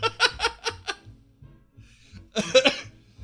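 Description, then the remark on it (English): A short run of breathy, rhythmic laughter, about five quick pulses, fades into a pause, then a loud, harsh cough bursts out in two or three rough hacks. “I have a weird cough this morning, and every time I laugh, it makes me cough.”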